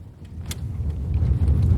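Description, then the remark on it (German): Steady low rumble of a car moving along the road, heard from inside the cabin while an interview is held on the drive, with a brief faint click or rattle near the start and no voices. “Und so machten wir aus der Not eine Tugend und führten das Interview, was wir eigentlich schon eine ganze Weile lang führen wollten, kurzerhand unterwegs im Auto.”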